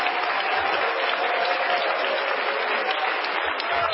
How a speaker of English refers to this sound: Do it for me one more time, would you? Give the Lord another great hand clap of praise right now.